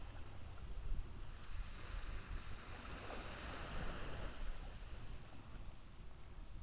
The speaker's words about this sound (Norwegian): Når bølgene slår inn, kommer det ny og god energi. Og når havet trekker bølgene ut, ta det med seg det som du ikke trenger.